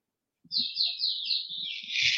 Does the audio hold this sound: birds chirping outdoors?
yes